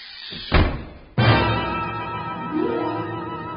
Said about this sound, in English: I said don't close the door!